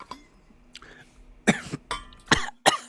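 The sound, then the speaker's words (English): A run of harsh, breathy coughs, four or five sharp bursts in quick succession, following a quieter stretch of faint rustling and a steady low hum. “made me cough”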